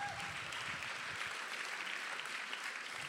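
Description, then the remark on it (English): A crowd claps steadily, a dense wash of many hands with no clear individual beats, holding an even loudness for about three seconds with no voices standing out, welcoming someone called up onto a stage. “Let's give Jesus a big clap right here.”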